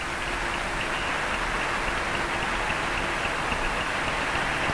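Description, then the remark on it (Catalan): A large crowd applauds steadily at a live tribute recital concert for Josep Carreras at the Arc de Triomf on Passeig de Sant Joan, Barcelona, as Carreras returns to the stage and Queen Sofia applauds. The clapping blends into a dense, even wash of noise that holds at the same loudness throughout without pauses or voices. “La reina Sofia està aplaudint en aquests moments, entusiasmada, en Josep Carreras i també Montserrat Cavaller.”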